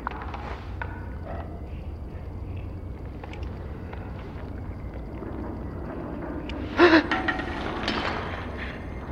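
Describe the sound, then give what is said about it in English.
A single sharp, breathy gasp bursts out near the end, loud, over a steady low rumble of wind or engine noise, as a person gasps in a tense moment, thinking a shot is about to be fired. “So you gasped just in case.”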